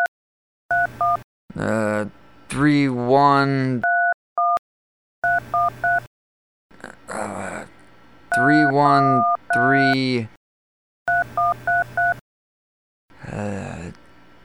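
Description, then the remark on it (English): Short bursts of telephone keypad tones beep in quick sequences as buttons are pressed to play a game of Phone Simon on an automated phone line. Each run of button presses alternates with a man's agitated voice speaking between them, all clear. “In order to fulfill your request, you must complete 30 rounds of Phone Simon.”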